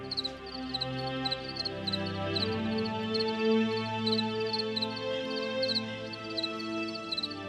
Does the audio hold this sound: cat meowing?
no